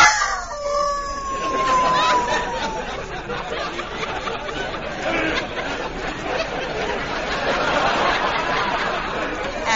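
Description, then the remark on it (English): A wolf from a pack newly arrived at a zoo gives a long, wavering howl that slides downward in the first couple of seconds, then fades into a busy wash of animal chatter and background noise that continues to the end. “What was that? One of our wolves.”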